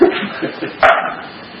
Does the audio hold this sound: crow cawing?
no